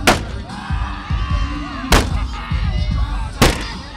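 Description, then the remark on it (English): Predators fans slam a sledgehammer into a junked car painted with the Anaheim Ducks logo and colors, on the plaza outside Nashville's Bridgestone Arena two hours before a playoff game: three loud, sharp bangs at uneven intervals over a steady murmur of crowd chatter and low rumble. “This is Smashville, and Predators fans are kicking things off by taking a sledgehammer to a junked automobile, painted over with the Ducks logo and color scheme.”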